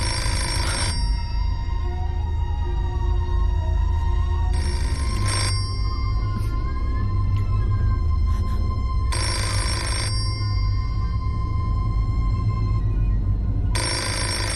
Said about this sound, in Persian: تلفن رو جواب نده. برش ندار.